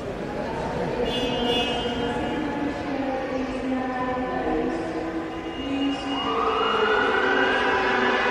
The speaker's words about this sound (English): And that's how it ends every year. Every hall with every horn and siren.